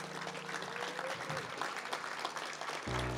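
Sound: audience clapping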